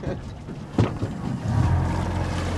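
A boat moves slowly through water between white poles toward a black torpedo-shaped floating device, its low engine rumble growing a little louder partway through over a constant rushing wash and some wind buffeting, with a brief knock early on.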